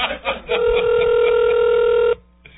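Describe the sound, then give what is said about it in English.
A single long, steady electronic ringing tone, like a phone ringing heard through the receiver, holds for over a second and then cuts off. It is a call to a man's home phone that goes unanswered. A brief bit of talk comes just before it. “Well, he's not answering his phone at home, and I think he's turned off his answering machine.”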